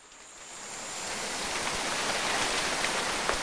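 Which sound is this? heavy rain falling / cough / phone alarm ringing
heavy rain falling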